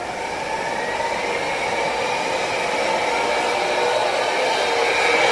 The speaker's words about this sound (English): Man, that scooter can go fast, too. It can. Did you hear it? She goes from one side of the house.